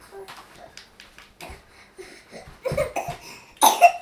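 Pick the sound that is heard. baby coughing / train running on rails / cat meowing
baby coughing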